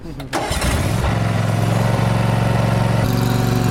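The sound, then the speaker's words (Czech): A small engine is started with a turn of the key, choke held up for a cold start; it cranks briefly, catches and fires up, then settles into a steady, buzzing run with a low throbbing hum; the pitch shifts slightly near the end as it is driven away. “Vždycky dáte páčku úplně dopředu na toho zajíčka a při studeném startu si podržíte sytič takhle nahoru a jenom otočíte klíčkem.”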